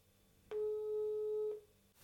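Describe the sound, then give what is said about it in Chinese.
A single steady electronic ringback tone sounds for about one second, clear, as a phone call is placed to a repair shop about a broken water tap; no one speaks. “哦，正好还存了修理店的电话。”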